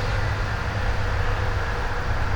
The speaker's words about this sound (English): Traffic is whizzing by on the interstate, probably not 50 meters away.